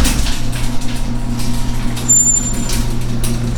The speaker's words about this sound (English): There goes the garage door.